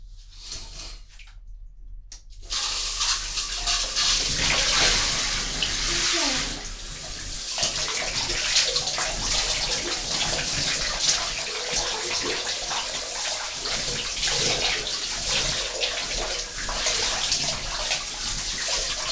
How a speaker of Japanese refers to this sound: シャワーを浴びようかな。カーテン閉めます。マイクが濡れちゃうなので。